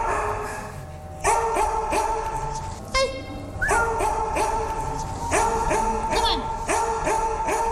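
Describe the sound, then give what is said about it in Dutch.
Several dogs bark repeatedly with reverberation at an animal shelter in Zandvoort, loud overlapping barks and yips arriving in quick bursts, with a brief high whine partway through. “En welke hond is dit? Dit is Wolf. Een wolf is als vondeling binnengekomen. Een beetje onrustig bij nieuwe mensen.”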